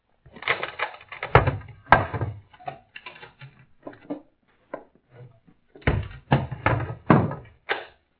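A wooden door is handled: a flurry of clattering knocks and latch rattles, a pause with small scrapes, then another burst of heavy thumps as it is shut and barred. No voices.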